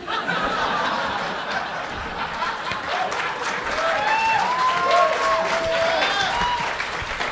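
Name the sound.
people clapping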